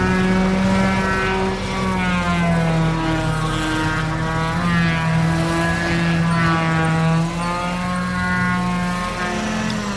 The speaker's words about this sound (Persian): مرتضا ویلاشه، اره برقی میکشه به تنه یه درخت.